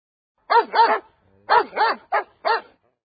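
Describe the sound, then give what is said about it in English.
Dogs bark in quick bursts, about six sharp barks in two clusters with a short pause between, loud, with no other sounds around them. “In the park, they untied the leashes so the dogs could run around. All the dogs liked the park.”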